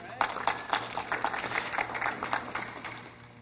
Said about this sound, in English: You can grab a seat. Give him a big hand clap, please.